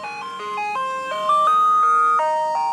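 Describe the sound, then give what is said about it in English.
A tinny, music-box style jingle plays from an ice cream truck moving at about 0.5 miles per hour past a car, a stepping melody of bright electronic notes, fairly loud and steady, with faint traffic rumble beneath and no one talking. “Hold on, there is of course an ice cream truck.”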